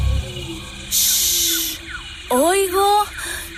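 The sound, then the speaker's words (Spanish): A person imitates a snake with a loud, sustained hiss lasting about a second, followed by brief sung vocal tones over a soft musical background. “¡Una serpiente! Silbo como la serpiente.”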